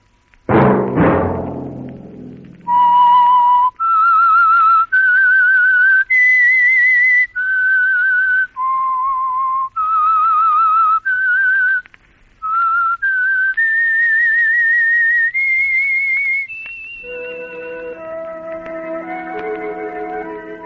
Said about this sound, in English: Let That Whistle be your invitation to the Household Finance Corporation program, The Whistler, each week over these stations.